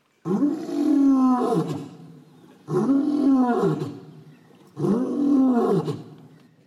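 A lion named Sisu roars three times in steady succession, each deep, powerful roar swelling and then fading with a throaty tail. Loud, with no voices.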